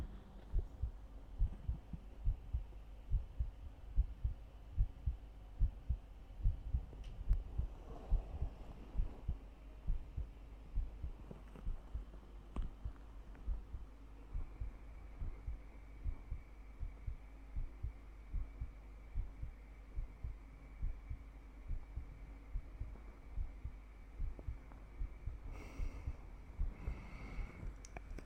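heartbeat

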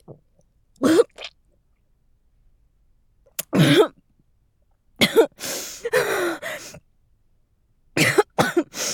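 repeated coughing

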